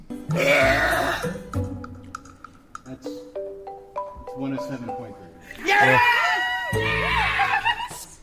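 Loud, drawn-out burps: a long rumbling belch at the start, a quieter stretch of wavering tones, then a second powerful, gravelly burp near the end.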